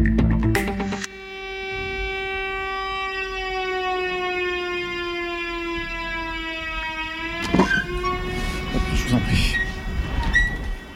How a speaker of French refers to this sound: AET, c'est notamment les sirènes que vous entendez tous les premiers mercredis du mois.